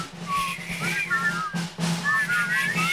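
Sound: people whistling a tune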